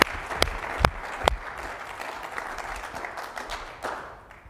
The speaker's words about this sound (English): Let's give the Lord one more good clap offering here this morning.